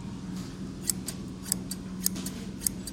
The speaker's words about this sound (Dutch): Kijk eens, hier zie je hem. Ik zal hem even oppoetsen voor je. Dit is 1964, deze schaar.